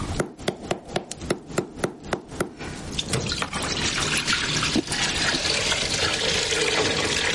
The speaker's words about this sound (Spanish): Abigail echa la leche en una olla.